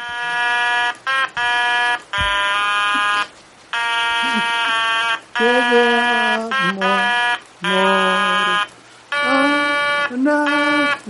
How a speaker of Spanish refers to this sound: Entonces, tú imagínate esta canción que vamos a escuchar ahora en el anuncio de la Lotería de Navidad del año que viene. Es una canción hecha con una bocina, pero es muy bonita, mira.